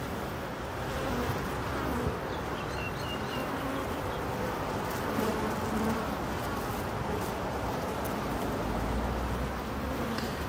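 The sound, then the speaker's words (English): A steady, dense buzzing hum of many bees fills the whole stretch, constant in loudness with no pauses, with a few faint bird chirps drifting above it. “Just listen to how they hum about.”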